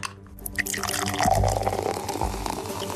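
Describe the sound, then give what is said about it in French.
A drink can cracks open with a short sharp hiss, followed by steady pouring and fizzing liquid for a few seconds, with no voices. “Oui, on rêve tous d'ouvrir une bonne canette,”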